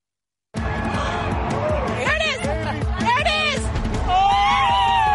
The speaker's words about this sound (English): America looks to the sky with tens of millions experiencing a total solar eclipse. This is the moment of totality. Crowds cheer as the rare astronomical phenomenon passes overhead.